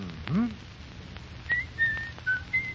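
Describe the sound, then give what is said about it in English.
A person whistles a short phrase alone: an opening upward swoop, then a few brief, clear high notes spaced out, moderately loud over faint background hiss. “Second, if you feel yourself slipping, shut out the immediate irritation by some soothing action, such as reciting a poem, humming a song, or even whistling.”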